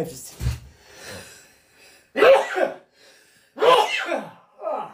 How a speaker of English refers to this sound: Bless you, sir. Thank you. I'm so sorry to your ears.